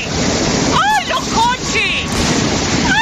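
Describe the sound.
A loud, steady roar of rushing floodwater from a half-hour torrential downpour fills the whole recording, continuous, in the small town of Setenil de las Bodegas, Cádiz province, Spain, while excited voices cry out over it in short bursts as cars are swept away.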